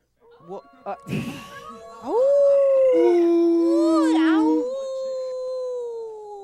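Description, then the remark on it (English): A person imitates a wolf howl: a few short sounds, then a loud, sustained, wavering howl that rises, holds, and slides up and down in pitch before fading out. “And the wolf. All right. The wolf. The wolf.”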